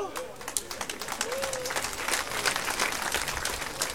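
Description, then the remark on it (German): A crowd breaks into dense, sustained applause, many hands clapping at once in a steady wash that builds slightly and holds, with a brief whistle-like tone early on. “Normalerweise kommt an dieser Stelle wirklich ein ganz spontaner, donnernder Applaus für mich”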